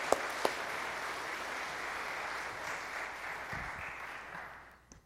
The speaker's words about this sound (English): So let's give her a round of applause as we welcome her forward.